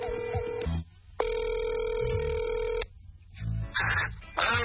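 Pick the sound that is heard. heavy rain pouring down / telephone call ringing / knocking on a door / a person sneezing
telephone call ringing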